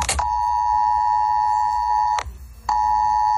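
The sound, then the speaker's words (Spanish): A loud, sustained mobile phone emergency alert tone with a steady mid-high pitch and bright harmonics, briefly cutting out once before resuming, with no voices. “Así sonaba. Así sonó.”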